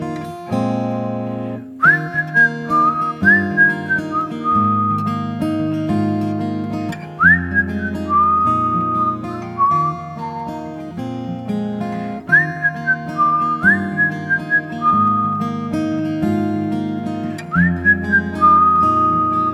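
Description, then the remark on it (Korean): A melodic whistled tune with a lot of reverb glides over a steady instrumental accompaniment, the whistle's sliding, sustained notes recurring in phrases throughout, clear and prominent with no talking. “네, 휘파람 잘 부시네요.”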